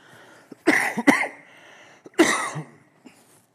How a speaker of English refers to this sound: excuse me. I think I've become allergic to this pulpit or something. It's like I can hardly get up here without coughing.